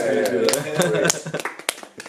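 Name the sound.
clapping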